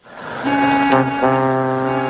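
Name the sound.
voice imitating a fart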